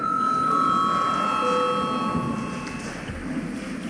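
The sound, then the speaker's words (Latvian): An electric bell rings in the chamber of the Saeima, the Latvian parliament, called for by the chair, with a bright, sustained metallic tone, holding unbroken for several seconds over a low murmur of background noise. “Lūdzu zvanu.”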